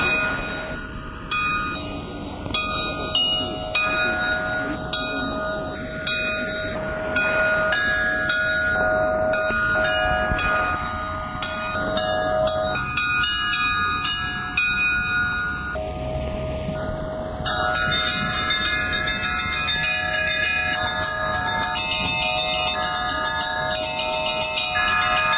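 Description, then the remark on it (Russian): Several church bells rung by bell ringer Ignat Karachev opening a bell festival in pouring rain ring continuously in a lively, overlapping peal, bright high tones and deeper ones struck in quick rhythmic patterns, loud throughout over a steady background hiss, with no voices. “Все, слава богу, думаешь прежде всего о звоне, когда звонишь, и о том, правильно ли ты его поднес к слушающим, и о том благолепии, которое он может донести.”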